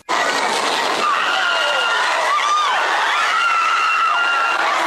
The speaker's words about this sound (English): That noise right there is Chuck Todd playing a clip, a video clip of the Charlottesville car attack